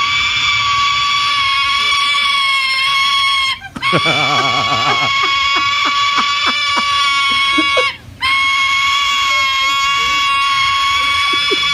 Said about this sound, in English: Yeah, and this juvenile silver-crested cockatoo is hungry, and this is the sound they make when they want to be fed.